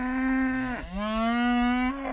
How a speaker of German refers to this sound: Sie haben richtig gehört. Es geht um Kühe.